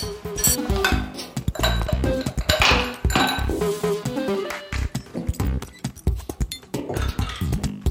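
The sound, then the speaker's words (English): Ice cubes clink and rattle against a glass cup as the cup is filled with ice to cool tea, a dense, continuous jumble of sharp taps, fairly loud, with no talking. “But if you want to drink it right away, then I recommend filling up a cup with ice cubes and then pouring it in, and it will cool off right then.”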